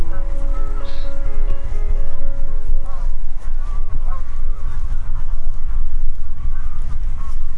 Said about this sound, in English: where we immediately disturb some grazing greylag.